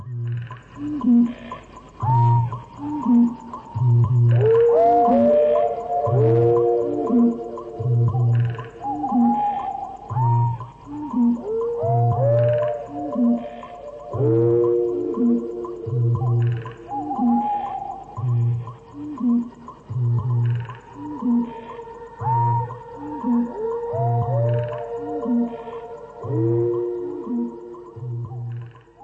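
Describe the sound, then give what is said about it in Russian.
A nighttime animal chorus: deep, regular booming pulses of a bittern underneath, wavering howls of a fox rising and falling above them, and a faint, steady high whine of mosquitoes humming throughout. No talking. “Вот ноктюрн, составленный из воя лисицы, с басом выпи бугая и с хором комаров.”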